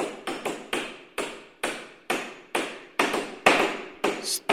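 A hammer knocks repeatedly, about a dozen sharp strikes in a steady but slightly uneven rhythm, each with a brief ringing decay. No voices.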